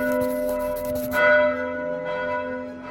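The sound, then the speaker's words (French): Eleven colossal bells of a basilica ring out together, their deep sustained tones overlapping and humming, with a fresh strike swelling the peal about a second in before it rings on steadily. “Le vaste et majestueux vaisseau pouvait à peine contenir la foule des fidèles qui s'étaient rendus de tous les quartiers de la ville dans le temple, à l'appel sacré des 11 cloches colossales de la basilique.”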